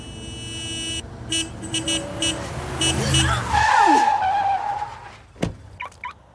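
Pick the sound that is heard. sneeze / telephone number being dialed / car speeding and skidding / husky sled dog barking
car speeding and skidding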